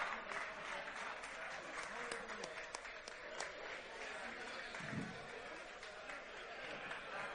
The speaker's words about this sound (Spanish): Así que recibamos con un fortísimo aplauso